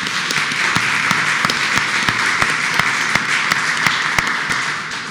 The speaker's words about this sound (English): Good round of applause for Louisiana there.